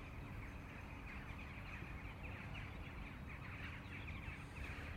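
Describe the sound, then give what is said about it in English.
A dense, continuous chorus of corvid calls, with harsh crow caws mixed into the steady chatter of a large jackdaw flock, fairly faint and unbroken throughout, with no voices. “You see, I can hear crows amongst all those jackdaws, but I'm just wondering if it's just, you know, solitary crows passing over.”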